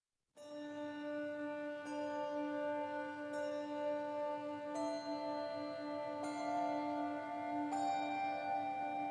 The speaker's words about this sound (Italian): Però la musica è veramente bellissima, questo suono di questi handbells meravigliosi.